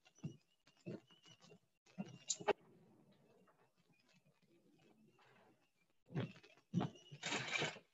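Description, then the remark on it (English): A cookie scooper clicks and scrapes through chocolate chip cookie dough in several short bursts, with a quieter stretch in the middle and a louder flurry of scooping near the end. “And all we do now is take a cookie scooper.”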